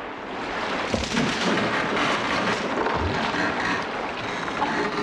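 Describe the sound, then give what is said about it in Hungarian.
A heavy wave slams against something solid, followed by a loud, continuous rushing roar of water with a couple of dull thuds. Loud, with no voices. “Egy hullám. Nekivágódott.”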